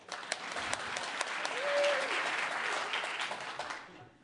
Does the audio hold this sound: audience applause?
yes